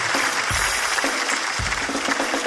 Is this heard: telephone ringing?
no